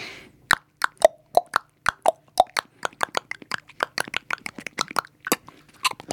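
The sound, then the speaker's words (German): A solo of hollow, sharp hoof-like clops, spaced out at first and then quickening into a brisk, steady galloping rhythm, with no voices over it. “Pferdehuf-Solo.”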